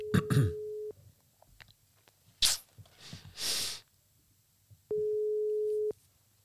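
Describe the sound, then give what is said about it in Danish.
A phone's ringback tone sounds twice, each a steady, clear one-second hum separated by a long pause, with a sharp breathy burst and soft rustling noises in the gap. “Kom, ringer til. Trykker han.”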